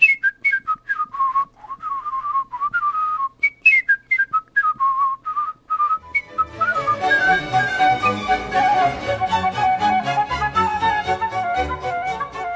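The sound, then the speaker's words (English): A lively whistled rendition of the last movement of Johann Sebastian Bach's Suite No. 2 in B minor, solo in quick, high, staccato notes, then joined about halfway through by a fuller instrumental accompaniment as the brisk whistling continues over it. “It's from the last movement of Johann Sebastian Bach's Suite No. 2 in B minor, and I really loved his rendition.”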